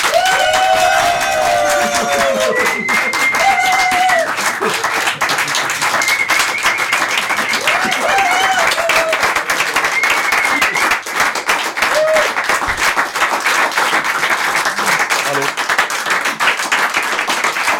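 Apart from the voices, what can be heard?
audience clapping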